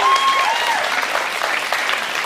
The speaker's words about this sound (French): Est-ce qu'on peut les applaudir bien fort?